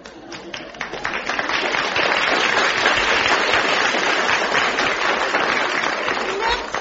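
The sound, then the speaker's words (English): Dense, sustained applause from an audience, a steady wash of many hands clapping that swells quickly and holds at a loud, even level for several seconds. “For Maudie, let's applaud him.”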